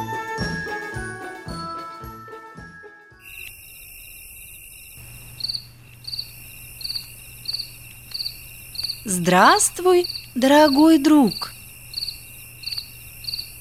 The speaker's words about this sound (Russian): Только не отвечай мне так громко, а то ты вспугнешь сверчка, который разговаривает о чем-то со своими друзьями-букашками.